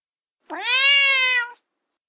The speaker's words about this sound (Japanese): 後ろで猫が低い声で泣いた。